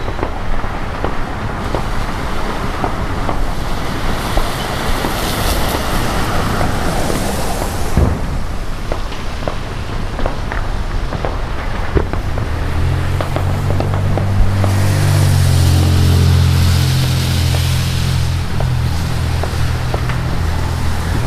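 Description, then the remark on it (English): A steady wash of road traffic fills the background, with occasional thumps, and a deeper engine drone swells up partway through as a vehicle passes. No one speaks. “You can hear a fair bit of traffic as well.”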